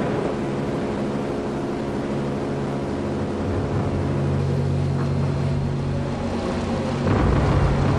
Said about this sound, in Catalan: Saps què és, això? Això són segurament els avions italians-alemanys bombardejant Guernica el 26 d'abril del 37. Un so d'horror, de la barbàrie, de la ignorància, tristesa.